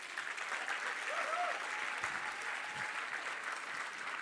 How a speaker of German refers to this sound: Applaus.